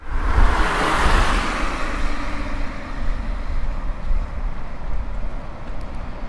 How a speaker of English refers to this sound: I will now let you hear what the speaker sounds like when I'm near a road with some traffic so that you can be sure that you'll also hear it when you're in a noisier environment.